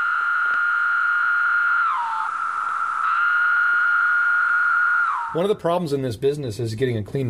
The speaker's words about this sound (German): Es ist wirklich nicht leicht, eine saubere Aufnahme von den Zikaden zu bekommen. Das Problem sind die anderen Zikaden. Die Zikaden singen nicht in Isolation.